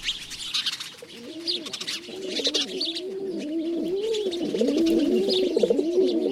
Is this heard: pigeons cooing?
yes